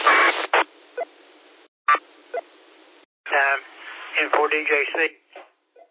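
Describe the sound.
A brief, harsh burst of digital APRS packet beacon data tones over a narrow radio channel, sent from a Chinese import radio without a faceplate that is run through a phone, followed by a few short clicks and then a person talking through the same tinny radio audio.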